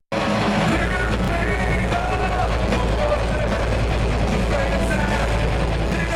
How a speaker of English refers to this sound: I'm just going to show you a little bit, a video of this … covering …